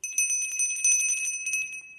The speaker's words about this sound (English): So listeners, the book is famous for all its footnotes. So on this podcast, when you hear the bell.